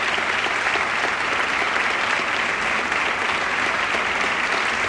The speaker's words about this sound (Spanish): Y nada, y este aplauso, tanto para la comunidad como para la Federación de Moros y Cristianos.